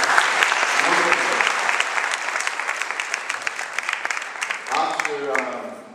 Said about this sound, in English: It's lovely to look out from the stage and see so many people get gathered for the first Namahata convention in Mauritius. Can you give yourself a round of applause for just getting here?